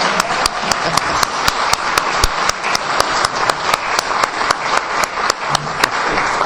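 Steady applause from an audience fills the whole stretch, a dense wash of many hands clapping at once, fairly loud, with a few sharper individual claps standing out and no talking.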